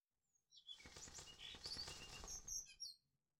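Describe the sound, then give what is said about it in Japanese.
A burst of chirps and tweets from a flying bird over a fluttering, flapping rush of wings, lasting a couple of seconds and then fading quickly. No one speaks. “あ、鳥が飛んでる。”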